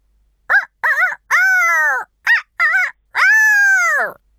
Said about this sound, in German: Bis im ersten Stock ein Hahn kräht.